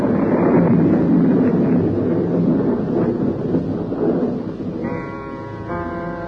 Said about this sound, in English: The wind came. The storm was beginning. Already I knew it would be raining in the estuary.